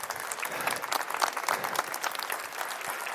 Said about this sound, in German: Und jetzt am Ende der Oper. Applaus.